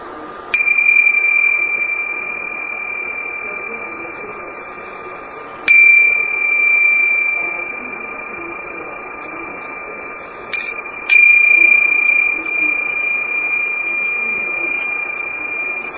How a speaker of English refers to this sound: And we'll allow the sound of the bells to begin our meditation period and also to draw it to a close.